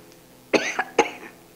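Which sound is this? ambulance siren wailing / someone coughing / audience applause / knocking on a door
someone coughing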